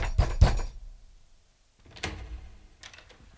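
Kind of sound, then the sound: household object, knocking on a door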